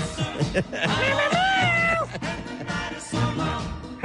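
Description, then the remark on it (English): A man's voice imitates a cat with a long, wavering meow that rises and bends in pitch, then breaks into shorter mewing calls, loud over a busy background. “Or do we need to talk to the guy that also talks like a cat?”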